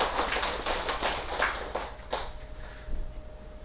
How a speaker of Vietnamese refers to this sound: Xin quý vị vỗ tràng pháo tay.